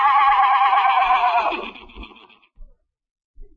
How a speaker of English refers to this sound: I could have swore I just heard a horse laughing in your bedroom.